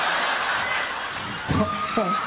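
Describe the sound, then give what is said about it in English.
A crowd claps and cheers steadily throughout while a performer sings a song about eating turkey, a dense wash of applause with a few voices shouting out near the end. “I'm like, all I hear is clapping.”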